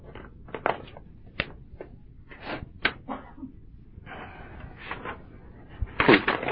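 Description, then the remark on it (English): Paper pages being handled and shuffled as someone searches for a lost page in their paper: a run of short, dry crinkling and flapping bursts, uneven in rhythm, with a louder scrunch near the end and no talking. “I lost a page in my paper here.”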